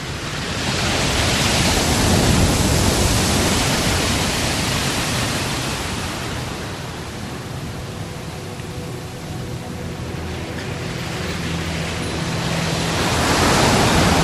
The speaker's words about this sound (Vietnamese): Tiếng sóng biển đêm Quy Nhơn giống như những tiếng thở dài, vừa như của biển, vừa như của cả con người.